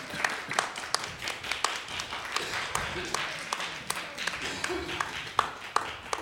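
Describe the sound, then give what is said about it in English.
An audience applauds steadily for several seconds as a prize winner walks up, a dense stream of sharp, overlapping hand claps with a busy crowd murmur underneath, moderately loud and sustained without pause. “Keep clapping, it's a long walk.”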